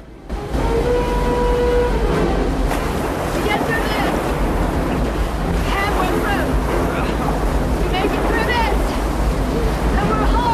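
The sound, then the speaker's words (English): A boat races through foaming rapids, riding over a wave of foam and heading straight for a major waterfall, with a loud, steady roar of churning water and wind buffeting the microphone, and indistinct voices cutting through now and then. “They ride over a wave of foam and head straight for the major waterfall.”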